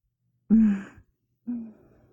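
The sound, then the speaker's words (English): Two loud breaths rasp through a gas mask, the first a longer hollow whoosh, the second shorter, each with a low muffled hum and a brief pause between them. “Me and my special little safe gas mask. I just love hearing my breathing amplified like that.”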